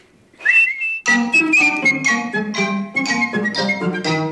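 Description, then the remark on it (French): A short rising whistle sounds alone, then a bright, steady whistled melody carries on over fuller musical accompaniment, clear and close throughout. “Toutes les fois que tu auras besoin de moi, tu n'auras qu'à siffler pour m'appeler et je viendrai te donner conseil.”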